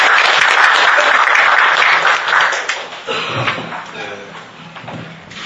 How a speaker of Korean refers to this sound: 먼저 이 토론회를 주최하신 송영길 민주당 용산참사대책위원회 위원장께서 대표 인사 말씀을 해주시겠습니다. 나오실 때 큰 박수로 맞이하시기 바랍니다.